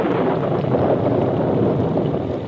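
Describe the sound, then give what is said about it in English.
A sudden storm roars with steady, loud rushing wind and rain-like noise over a trail, continuous for the whole stretch, with no voices. “As they rode the trail toward camp, a sudden storm came up.”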